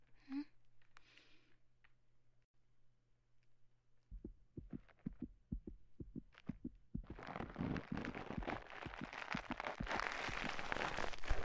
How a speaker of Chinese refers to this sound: 没听错吧？好像心跳加速了。